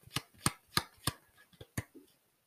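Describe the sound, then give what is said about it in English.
A deck of cards being shuffled by hand: a run of crisp, sharp slaps in a fairly steady rhythm, with softer rustling in between, and no voices. “Also, don't make fun of how I shuffle.”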